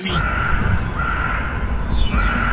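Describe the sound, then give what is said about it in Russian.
A raven caws outside a window in a few drawn-out, hoarse calls over a steady wash of background noise, heard at moderate loudness. “После каждого его аминя за окном каркает ворон.”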